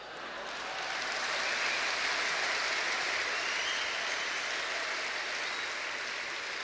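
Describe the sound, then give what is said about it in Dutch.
A large crowd applauds steadily for Jules Deelder at the Nacht van de Poëzie 2015, a dense wash of clapping that swells in quickly and holds at an even, full level throughout, with no voices on top. “Groot applaus voor Jules Deelder tijdens de Nacht van de Poëzie van 2015.”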